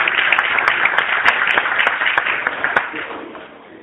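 An audience breaks into sustained applause, a dense patter of many hands clapping at a steady loud level before gradually tapering off toward the end.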